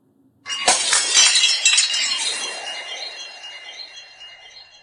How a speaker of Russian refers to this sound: И старший упал, и бедный младший ударился о корень дерева и с жалобным звоном разбился на мелкие кусочки.